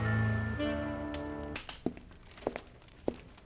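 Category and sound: nature, storm rain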